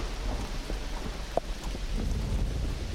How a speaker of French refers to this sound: Il remonte dans la carriole alors que la pluie se met à tomber à grosses gouttes.